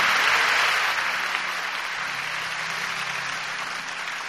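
A crowd applauds steadily, a dense wash of many hands clapping that starts loud and eases slightly but keeps going throughout, with no voices standing out.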